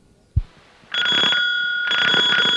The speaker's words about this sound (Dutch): Dit was de drukbel, hè?